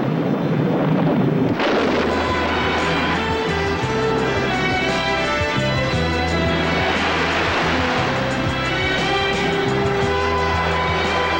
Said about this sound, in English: I don't like the looks of this weather. I think we're in for a blow. That night, the storm breaks.